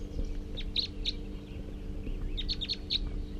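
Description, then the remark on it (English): A just-captured small-built male bird with a lot of yellow on its head, bird number 341, sings in two brief clusters of sharp, high-pitched chirps, moderately loud, over a steady low hum with no talking. “So recording that male who was just captured, somewhat small build and has a lot of yellow on the head.”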